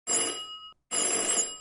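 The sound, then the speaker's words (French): A telephone bell rings in two loud bursts separated by a brief pause, each a bright metallic trill with sharp high tones, and no voices alongside. “Attendez-vous cette sonnerie?”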